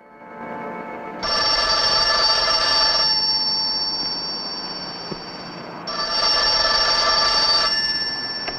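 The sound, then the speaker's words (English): An old-fashioned telephone bell rings loudly twice with an incoming call that a large wall-installed tape machine records, each bright metallic ring lasting about two seconds with a pause between, over a faint steady background hum and no voices. “He re-emerges when the phone rings.”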